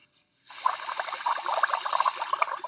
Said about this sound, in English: A little glass of water with a straw to make some science lab sounds.